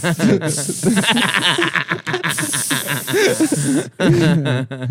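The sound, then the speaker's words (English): A voice imitates a loud, continuous sizzling hiss like something dolloped onto hot coals, sustained in bursts with brief breaks, mixed with breathy vocal sounds and a bit of laughter. “It's like they have like a spoon and they like dollop it onto hot coals. And then it like sizzles anyways, but they still have a gay guy there to make the sound effects.”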